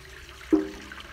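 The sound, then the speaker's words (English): Water gushes into the container of a simple pump, starting abruptly with a brief hollow gurgle, then settling into a steady, quieter rush. No one speaks. “Now to use this, what we do is we fill this up with water.”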